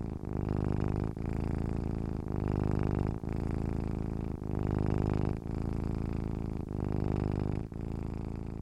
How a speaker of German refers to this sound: Doch Luna, die kleine Zauberkatze, liegt noch immer auf deinem Bauch und beginnt schon wieder zu schnurren.